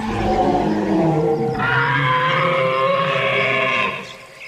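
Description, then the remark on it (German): A loud, drawn-out imagined dinosaur roar, low and rumbling at first, then rising into a harsh, bellowing cry that holds for several seconds before fading. “Nein, nicht um Enten, sondern um Dinos. Von denen wissen wir leider nicht genau, wie sie sich angehört haben.”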